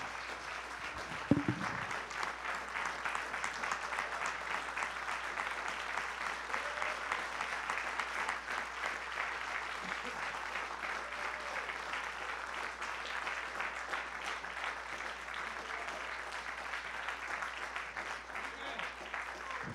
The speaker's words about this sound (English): Today we want to honor the veterans that are here. And if you're here, you're a veteran, I want you to stand. Amen. Don't get up too quick. Amen. Just, church, would you give them a hand clap of praise? Yeah.